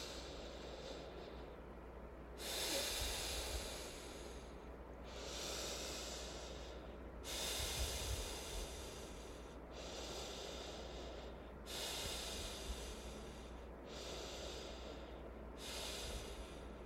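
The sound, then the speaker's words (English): Four slow, deep Ujjayi breaths drawn in and out through the nose, not the mouth, each inhale and exhale a steady, hissing rush of air in an even rhythm, with no talking. “And if you couldn't tell, I was breathing through my nose all of those four times. So that is Ujjayi breathing.”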